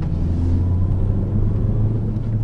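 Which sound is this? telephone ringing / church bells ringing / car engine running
car engine running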